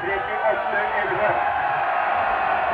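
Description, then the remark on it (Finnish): A large stadium crowd roars hurrahs as the winning result of Hakulinen, number 17, 3:33:33, is announced over the loudspeaker, a steady, dense wash of voices, loud and unbroken throughout with no single voice standing out. “Juuri tämä sama tulos kuulutettiin tuolta kova ensistä ja katsoma antoi ankaret hurraa.”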